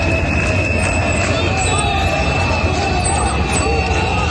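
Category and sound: crowd, crowd booing and applauding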